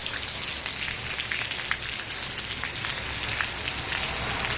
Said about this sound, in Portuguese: O que escoitan non é unha fervenza. Era a auga que caía esta mañá ás portas da emisora, máis ou menos a iso das 7:30.